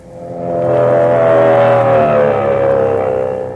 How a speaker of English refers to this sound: Fellows and girls, hear that sound? It's the terrific pulsating roar of a racing motor. It's the shriek of racing tires traveling at 100, 120, faster than 150 miles an hour.